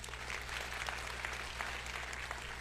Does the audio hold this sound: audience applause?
yes